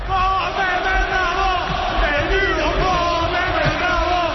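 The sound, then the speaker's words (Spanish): A football crowd in the stands at San Mamés chants a fruit-and-vegetable themed chant at José María del Nido, many voices rising and falling in a sustained, sing-song unison that stays loud and steady for the whole few seconds. “Lo de ayer va a quedar para la historia, como también va a quedar para la historia de ese partidazo el grito hortofrutícola de la grada a José María del Nido.”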